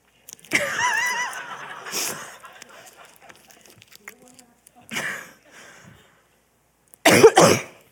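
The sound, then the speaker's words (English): A person coughs repeatedly in harsh, scattered bursts, a couple of seconds apart, finishing with a loud double cough. Strained vocal sounds come before the first cough. “Apparently you need a cough drop for this one.”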